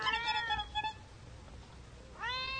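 cat meowing

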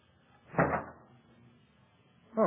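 door opening

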